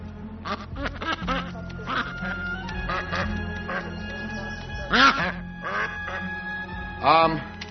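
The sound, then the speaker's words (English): A duck quacks repeatedly in loud, raspy bursts, with the strongest calls near the end, over a busy background with voices murmuring faintly underneath. “It's just a duck.”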